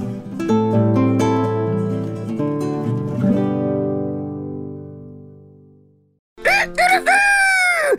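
A sustained musical chord rings out and slowly fades to silence, then a rooster crows loudly, one drawn-out rising and falling cock-a-doodle-doo.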